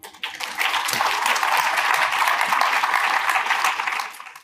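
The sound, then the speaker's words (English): A crowd applauds steadily for a few seconds, a dense, even wash of many hands clapping, swelling quickly and fading out at the end. “So big clap out to them.”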